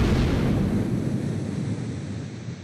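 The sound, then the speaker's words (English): A single loud explosion roars out with a deep, rumbling boom that fills the space, then slowly fades into a lingering low-end rumble. No one speaks. “Cue the explosion sound effect!”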